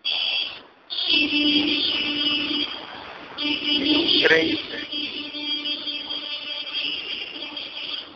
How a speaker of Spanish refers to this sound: Ahora estoy aquí en el balcón, quinto piso, y abajo está el macaneo de carros. Ahorita escuchan. Es una intersección y es horrible. Todo el mundo pisa. A los carros, a las bicicletas, a los peatones.